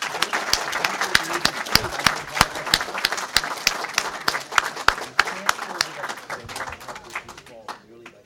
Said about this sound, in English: I want to thank our panel. If you join with me in a round of applause.